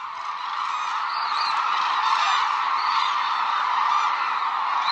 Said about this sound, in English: Most of the world's hooded cranes winter at one reserve on Japan's southern island of Kyushu, calling together around sunset.